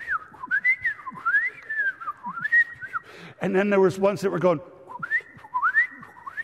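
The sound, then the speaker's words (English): A person whistles an imitation of Steller's jay calls heard outside a window that morning: repeated rising and falling mid-pitched whistled phrases, broken up by a short spoken line in the middle before the whistling resumes. “And so outside my window this morning, there were birds that were going.”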